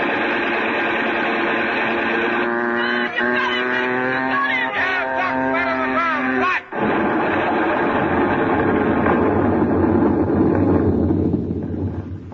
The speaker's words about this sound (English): But you better not take a look at that landing field. Why not? What that explosion did to Doc Lorenz and those Japs isn't pretty.